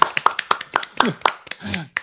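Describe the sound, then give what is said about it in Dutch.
A short burst of steady, evenly spaced clapping from a small group, lasting about two seconds, with voices talking and laughing underneath. The small round of applause welcomes footballer Reon Boeringa for a Voetbal International interview. “Mag ik een klein applausje voor Reon Boeringa?”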